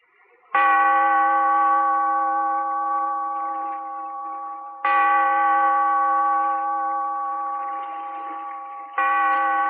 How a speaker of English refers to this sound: Bellkeeper, toll the bell, so that all may know we are gathered again in the Weird Circle.